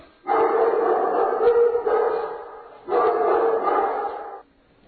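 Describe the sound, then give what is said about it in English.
A crowd of young puppies in a pile yip and bark over one another in a dense, continuous chorus, loud, with a brief dip in the middle before the noise swells again and stops. “Those are some cute puppies.”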